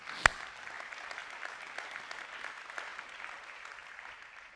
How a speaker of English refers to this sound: But I will say, I'm also equally as thankful for the many godly women who are here, who pray for us, who text us. And can you clap for them?